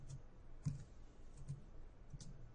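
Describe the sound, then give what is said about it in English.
A handful of soft, irregularly spaced keyboard key presses click quietly against a low background hum as a search word is typed, with one slightly firmer keystroke standing out as enter is hit. No one speaks. “All right, so now that we've typed in what we the word and I've hit enter on my keyboard, I need to handle the query submitted.”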